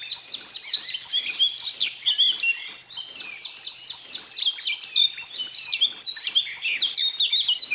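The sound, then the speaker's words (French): Eurasian blackcap song: a rapid, continuous stream of high twittering and fluting warbles, rising and falling, clear, with no voices. “Personnellement, j'ai un faible pour la fauvette à tête noire, juste devant le merle.”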